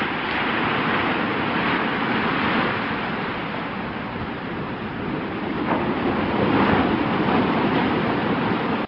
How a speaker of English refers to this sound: But I suppose if I'm pushed, my favourite sound would be the sound of a rough sea on a blustery day, beating up against the sea wall, with spray waves splashing over the top. As long as I'm not too close, that is.